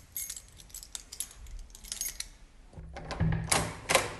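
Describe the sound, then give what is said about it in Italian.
Keys jingle and clink in a quick, bright flurry, followed by a few louder metallic rattles near the end, with no talking, as someone comes in. “Sento le chiavi, qualcuno sta entrando.”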